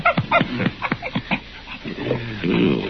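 A dog whimpers in a quick run of short, high, falling whines, then gives a few lower, drawn-out whining moans, with no talking.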